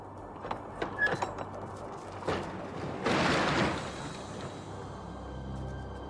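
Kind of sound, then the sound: vehicle, truck door being opened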